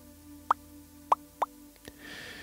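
Bubbles pop one after another: three distinct, bright little plops spaced unevenly, followed by a couple of fainter ticks and a soft fizzing hiss. No one speaks.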